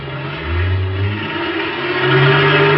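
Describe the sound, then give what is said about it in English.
A big semi-trailer truck's engine roars and revs up as it pulls itself loose from a wrecked sedan jammed into its rear end and pulls away, its low droning pitch climbing steadily. The sound is loud and continuous, with no voices. “We still had about 100 yards to go, and the truck roared up and started pulling itself loose from the wrecked car.”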